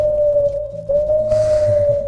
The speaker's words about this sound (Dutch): Ja, dus ik dacht als we nou het uilengeluid horen, dat is...